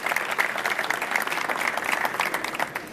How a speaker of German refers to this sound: Und ja, ich würde euch herzlich einladen, Sie hier auf der Bühne ein bisschen Applaus zu geben.